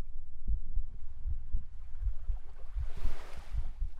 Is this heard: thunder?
no